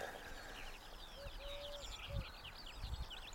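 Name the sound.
wood pigeons cooing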